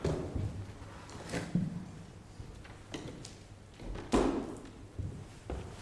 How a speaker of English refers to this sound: We'll just close the door through to Junior Church.